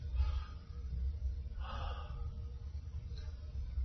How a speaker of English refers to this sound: If I were making the film, you would kind of zoom in and you would see his hands or her hands, and you would hear them breathing deeply.